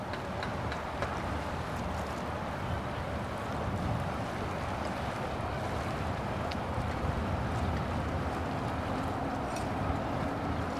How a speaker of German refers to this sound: Und du hörst das Wasser rauschen und dann natürlich diese ganze Geräuschkulisse betreffend der Schiffe. Es ist zum Teil auch so komisches Pfeifen